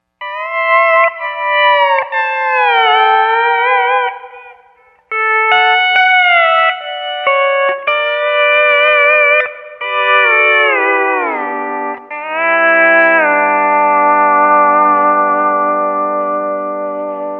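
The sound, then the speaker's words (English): An electric guitar played through a modulation effect box with the speed knob at about 3 o'clock and the depth knob at about 1 or 2 o'clock: loud notes and chords with a gentle, steady pitch wobble, a few downward slides, and a long sustained chord to finish, with no talking. “A little over the top for most applications, but if we roll the speed knob back to about 3 o'clock and turn the depth knob up a little bit, to about 1 or 2 o'clock, see what we get.”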